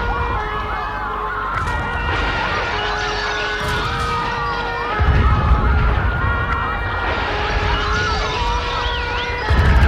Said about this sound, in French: La police, les pompiers arrivent. Oui, la police et pompiers arrivent.